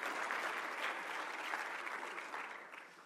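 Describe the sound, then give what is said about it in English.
Steady applause from a crowd for the Braves, a dense patter of many hands clapping at once that stays loud throughout and begins to fade slightly near the end. “Yeah, a round of applause for the Braves.”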